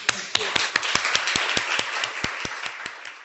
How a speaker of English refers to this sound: And of course now I want to thank so much our speakers of today, who did a very, very good job. It was very interesting for me, though I'm sure it was for you, but so a big applause.